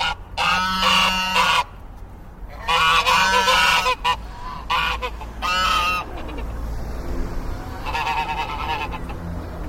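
Geese honk loudly in several irregular bursts, their harsh, nasal calls overlapping and rising and falling over a steady low rumble, with brief pauses between outbursts and a fainter honking stretch near the end.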